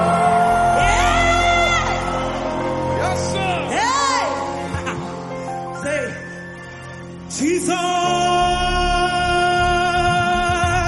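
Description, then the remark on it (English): A large audience at a Christian worship service erupts in loud, sustained shouting, whooping and cheering, voices overlapping in bursts of joyful screams that rise and fall for several seconds, then surge again near the end. “Now can you begin to make a joyful noise unto the Lord?”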